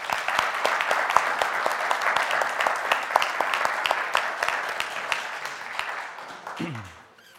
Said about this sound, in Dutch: En ik wil jullie van harte welkom heten. Zullen we ze een hartelijk applaus geven?